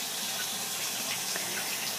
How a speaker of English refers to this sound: You can probably hear the water running, so you know that I'm in the tub.